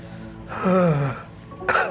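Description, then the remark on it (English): A single sneeze: a drawn-out, voiced wind-up breath with falling pitch, then a sharp, brief burst of air. No one speaks. “Bless you.”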